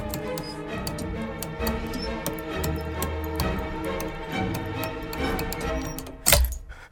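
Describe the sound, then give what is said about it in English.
A pendulum clock ticks steadily, overlaid with small clicking and scraping as its hour hand is turned from 6 to 12, ending in a sharper snap as the hand breaks off. “He moves the clock's hour hand from 6 to 12.”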